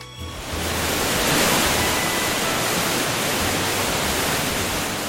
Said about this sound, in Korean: 입구부터 웅장한 폭포가 반긴다.